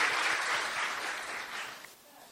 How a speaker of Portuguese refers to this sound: Professor, já vamos aplaudir. Obrigado.